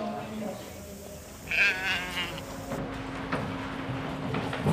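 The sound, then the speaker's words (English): A sheep gives a loud, wavering bleat partway through, with fainter bleats and shuffling around it, all over a steady low engine-like hum and muffled background voices, in the sheepyards beyond the fleece judging room at a three-day shearing competition, where heavily fleeced sheep unloaded from trucks wait their turn. “Just beyond the fleece judging room are the sheepyards.”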